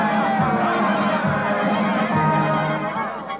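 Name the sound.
circus crowd cheering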